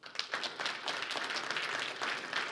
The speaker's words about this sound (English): Put your hands together and give them a clap offering. Hold on. If you're a man of God.